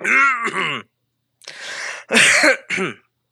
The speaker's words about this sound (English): All right, get your coughs out.